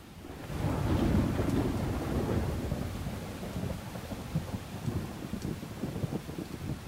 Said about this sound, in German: Da fallen die ersten dicken Tropfen vom Himmel. Der Wind wird stärker.